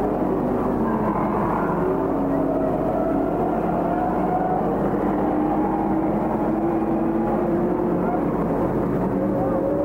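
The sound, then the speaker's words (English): Race car engines roar steadily throughout as the cars come down the back stretch, leader Rod Sims at 96 laps, followed by Bill Taylor; a dense, loud drone whose pitch gently rises and falls as the cars sweep around the track. “Here they come again, going down the back stretch is the leader.”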